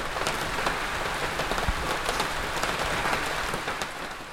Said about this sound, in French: Il pleut ce soir-là, et chaque goutte qui tombe sur Lucie lui donne de plus en plus soif.